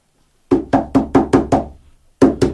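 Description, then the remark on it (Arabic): Loud, heavy pounding on Lot's door by people demanding he open it: a rapid run of six hard knocks, a brief pause, then two more forceful blows. No voices. “افتح الباب افتح الباب يا لوط، افتح افتح الباب وإلا كسرناها عليك.”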